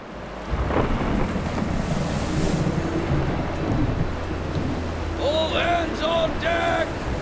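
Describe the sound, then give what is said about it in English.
A raging storm at sea in the Pacific Ocean, heard from a ship's deck, with swift wind: thunder rumbling deep and continuously under steady, heavy rain, loud, with a few brief high wavering tones cutting through near the end. “The ship is in the Pacific Ocean now, in the middle of a raging storm.”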